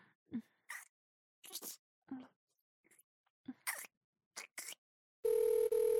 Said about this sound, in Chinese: 是你老婆的电话吗？你接吧。